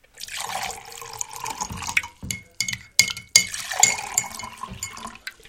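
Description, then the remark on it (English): Coffee is poured into a cup in a steady, rushing stream that rises slightly in pitch, then breaks into a few sharp splashes and light clinks before stopping. No one speaks. “You ready for some coffee, honey? Absolutely. I'll pour.”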